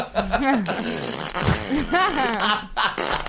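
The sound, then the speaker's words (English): A long, loud fart noise, recorded from a woman at the moment of her death, stretches for about three seconds, its pitch warbling up and down with brief sputtering breaks along the way. “The moment you die, the moment you die, you actually expel you gas from your body.”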